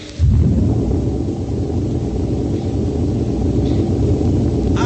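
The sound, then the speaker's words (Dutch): A craft's motor is switched on after its shock absorbers are released, starting abruptly and settling straight into a loud, steady, deep rumble that holds for several seconds, with no voices over it. “En nou de motor. Opgepast. Contact.”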